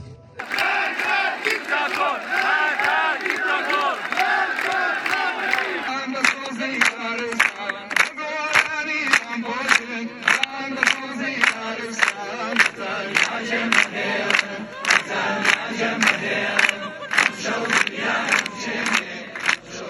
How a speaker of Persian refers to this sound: صدای شیون یکی از بستگان ژینا و شعارهای مردم معترض و سرودخوانی آنها در جریان مراسم خاکسپاری مهسا امینی را شنیدید.